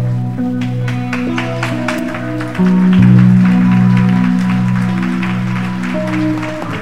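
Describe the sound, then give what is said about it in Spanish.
A church audience claps steadily and continuously as applause for God, sharp hand claps layered over sustained keyboard or organ chords that swell louder partway through. Nobody speaks. “Este aplauso, Señor, es para ti.”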